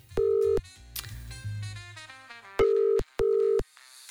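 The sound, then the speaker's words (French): Three loud, steady electronic telephone beeps of a phone call being placed, each about half a second long, with music playing softly between and under them. “Ah non, mais ce bip bip, moi je le sens pas du tout, hein.”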